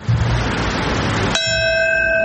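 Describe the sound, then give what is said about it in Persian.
A single deep memorial bell strike rings out in New York, marking the moment 20 years earlier when the first plane hit a World Trade Center twin tower on the 20th anniversary of the September 11 attacks. It follows a stretch of steady, noisy background, and its clear tone sustains and hums through to the end without fading much. “تنین صدای ناقوس در نیویورک، درست در لحظه‌ای که 20 سال پیش اولین هواپیما به یکی از برج‌های دوقلو مرکز تجارت جهانی برخورد کرد.”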